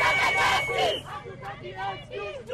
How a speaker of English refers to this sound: A crowd of about 60 activists marched past the Supreme Court, the police headquarters, and toward the National Assembly, chanting, "We don't want excuses, we want justice."